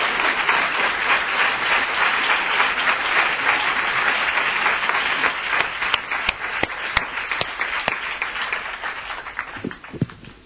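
A church audience in Spain applauds the Lord steadily for about ten seconds, a dense wash of many hands clapping, then it thins out toward the end, with a few sharp individual claps standing out as it fades.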